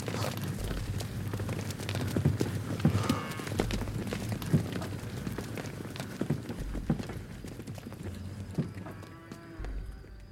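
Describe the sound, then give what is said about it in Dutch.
A herd of startled cows runs noisily away through a soaking-wet pasture, a jumble of clattering, thudding hoofbeats and scuffling, with a few short moos rising over the commotion. “Koeien, die net zo verschrikt als zij met veel lawaai weghollen.”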